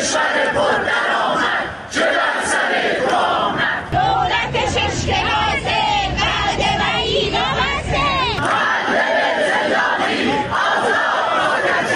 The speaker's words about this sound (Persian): گروه‌هایی از بازنشستگان کشوری در ادامه تجمعات هفتگی خود موسوم به سه‌شنبه‌های اعتراضی در چندین شهر از جمله کرمانشاه، عراق، اهواز، سنندج، همدان، یزد و شیراز تجمع کردند.